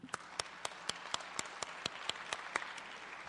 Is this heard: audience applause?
yes